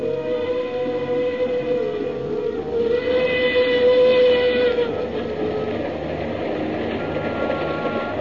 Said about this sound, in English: The mournful whistle of the Cape to Cairo Railroad engine sounded in the night.